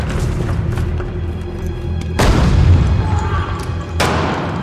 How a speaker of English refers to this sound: In night vision, special forces leave a helicopter, then storm a building, hurling a grenade in ahead of them.